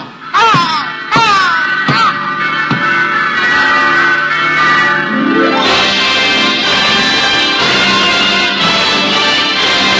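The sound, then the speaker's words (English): Church bells in a French village ring out loud at night, rung by the village priest: a few distinct strikes at first, then building into a dense, continuous peal of overlapping tones with no voices. “Yes, Major. It's the church bells.”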